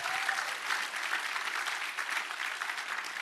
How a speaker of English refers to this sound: Come on, give the Lord a good hand clap for that.